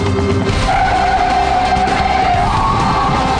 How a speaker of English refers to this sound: he does a performance test of going around corners just to show the absolute maximum amount of performance these electric cars can do